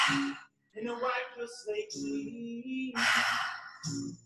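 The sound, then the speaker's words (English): Several audible breaths in a steady rhythm during a guided breathing exercise, two-part inhales into the belly then the heart alternating with long exhales, some with a sighing, slightly voiced quality, over a faint low background tone. “Inhale, belly, inhale, heart, exhale out, inhale, belly, inhale, heart, exhale out, inhale, belly, heart, exhale, keep breathing.”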